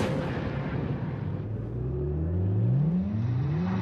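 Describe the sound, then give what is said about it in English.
A nine-year-old V8 car engine revs loudly, its deep growl climbing steadily in pitch as it accelerates over a few seconds, with no voices. The car has Firestone Destination tires. “We took the power of a 9-year-old V8 and gave it the impressive handling of Firestone's Destination tire.”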